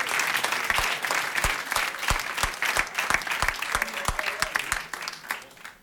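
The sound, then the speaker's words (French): An audience claps steadily to welcome a guest joining them, with dense overlapping hand claps and a few sharper claps standing out, fading slightly at the end. “On applaudit Goodluck, s'il vous plaît, qui nous rejoint.”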